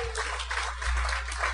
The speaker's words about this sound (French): Merci d'applaudir. Tout, c'est ça, il y a tout le temps une personne qui applaudit trop longtemps. Puis bravo, c'est toi.